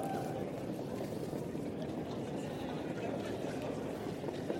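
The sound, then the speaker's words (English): Heavy rain pours down in a dense, steady hiss and patter, loud and unbroken for the whole stretch, with a low rumbling wash underneath. “Listen to that rain. Listen. Boy, it's pouring now.”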